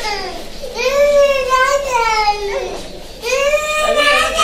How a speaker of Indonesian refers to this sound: Seperti biasa, ruang tunggu klinik anak-anak itu dipadati ibu dan bayi mereka yang menunggu dengan sabar untuk mendapat perawatan.